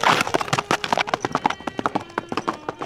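Rapid clip-clop of a spurred, ridden horse's hooves galloping on a hard street surface through streets and squares, a steady fast rhythm of sharp impacts throughout, with no voices.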